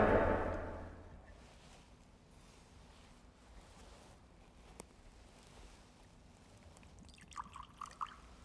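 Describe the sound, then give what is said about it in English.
A short pour of water splashes into wine in a chalice during Mass at the start, then a quiet, hushed pause follows with a single faint clink and a few light dribbling trickles near the end. “By the mystery of this water and wine, may we come to share in the divine life of Christ, who humbled himself to share in our humanity.”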